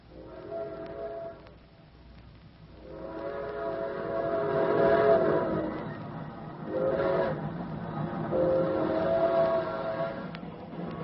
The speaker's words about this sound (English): We don't get to see a train very often. Sure looks good. Yep, just gliding along.